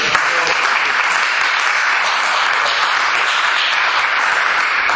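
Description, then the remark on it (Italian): An audience applauds steadily for the full five seconds, a dense, loud wash of many hands clapping at once with no voices breaking through. “Un bel applauso.”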